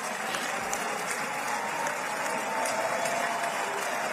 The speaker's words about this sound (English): Why don't you give him a pardon? Give him a pardon. He's got people standing up and applauding. I mean, what?